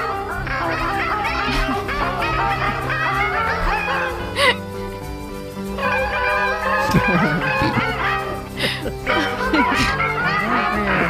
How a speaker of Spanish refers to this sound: Ayer cuando actuaban en Ponte Caldelas, creo que era, sí. con la Sinfónica de Vigo, o sea, y no pudieron. Las gaviotas cantan con la Sinfónica de Vigo, dice, wow.